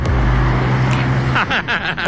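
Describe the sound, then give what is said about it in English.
Loud car engines rumble and rev at a traffic light in Sandgate, New South Wales, as cars race to reach the light first. The low roar breaks into a rush of passing road noise as the vehicles pull away, with faint voices underneath. “The very first game was which car would get to the traffic light first.”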